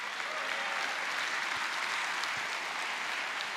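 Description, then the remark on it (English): An audience applauds steadily, a dense wash of many hands clapping at an even, fairly loud level for a few seconds without any voices standing out. “Some of you, it's hard for you to clap on that because, well, I understand.”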